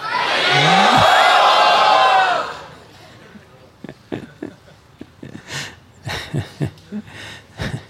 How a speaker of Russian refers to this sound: Пожалуйста, все, кто невнимательно повторяет Святое Имя, поднимите руки вверх и громко крикните «Хари Бол».